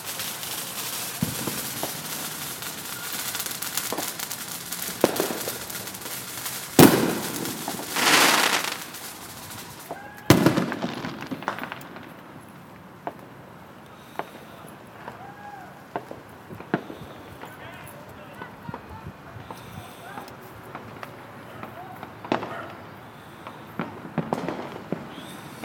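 Fireworks and firecrackers go off outdoors on the Fourth of July: a loud, crackling volley early on, then scattered sharp pops and bangs at irregular intervals.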